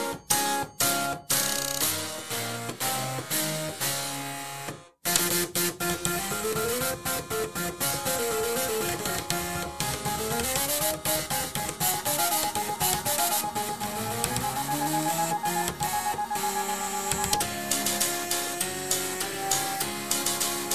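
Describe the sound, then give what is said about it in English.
The Floppatron 3.0, an ensemble of 512 floppy disk drives, 16 hard drives and 4 flatbed scanners, buzzes out a tune, with stepped motor tones sliding up and down in pitch, rhythmic clicks, and a brief pause before the melody resumes loudly. “Do you want to have a listen then to what 512 floppy disk drives, 16 hard drives and 4 flatbed scanners sound like together?”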